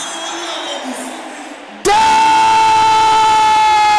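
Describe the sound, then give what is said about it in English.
A crowd of voices shouts a prayer phrase together, loud and reverberant, then a single loud, sustained cry cuts in and holds at a steady pitch to the end. “Can I hear the brother shouting the same thing?”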